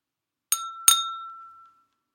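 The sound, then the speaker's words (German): Two bright clinks of dishes knocking together as the young ones set the table for dinner in the garden, a fraction of a second apart, each leaving a clear ringing tone that fades slowly. No voices. “Im Garten decken die Jungen den Tisch fürs Abendessen.”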